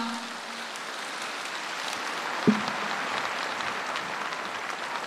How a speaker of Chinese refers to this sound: 让我们再次用最热烈的掌声感恩大慈大悲观世音菩萨，感恩卢军宏台长